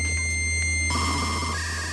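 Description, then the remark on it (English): A dial-up modem handshake: steady electronic tones and short beeps, then a sudden burst of harsh, static-like hiss and warbling screech, loud with no talking. “Gone are the days of hisses and beeps.”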